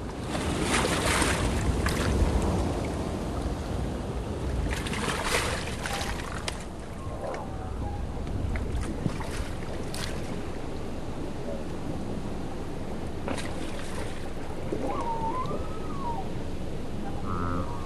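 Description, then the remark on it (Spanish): Heavy splashes of water from marine reptiles, plesiosaurs and elasmosaurs hunting fish or passing pterodactyls, burst out every few seconds over a steady churning wash of waves, with a few thin, wavering animal-like calls rising near the end. “El plesiosaurio y el elamosaurio, con forma de dinosaurios, pero con un cuello larguísimo, seguramente salpicaban mucha agua cuando cazaban peces o pterodáctilos que pasaban volando”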